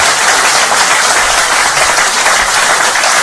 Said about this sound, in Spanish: La gente aplaudía al chamán.